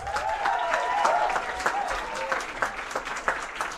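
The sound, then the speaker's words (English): An audience applauds the election candidates steadily, a dense wash of many hands clapping at fairly even loudness throughout, with some voices cheering over it in the first half. “I just want you to remember that everyone who's been involved in this process and has put themselves up deserves our respect, whether they've won or lost, and I think they should all be really applauded for doing that.”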